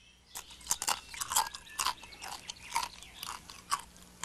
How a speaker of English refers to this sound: As Hare munched on crackers and cheese